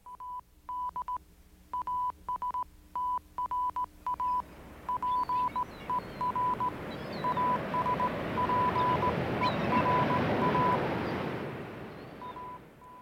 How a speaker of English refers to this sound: The Morse code sending out a message in Latin that says, travel through space with much difficulties? Yeah, ad astra, ad aspera, if I remember my Latin correctly.